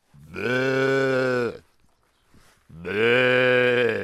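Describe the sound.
A person imitates a ewe's bleat, letting out two long, loud, wavering baa calls separated by a brief pause, with no other sounds around.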